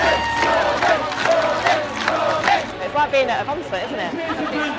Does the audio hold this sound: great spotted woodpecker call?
no